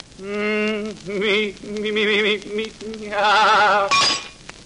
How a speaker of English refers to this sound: Well, did I really shatter the water tumbler? No. Someone threw a brick through the window. A music critic, no doubt.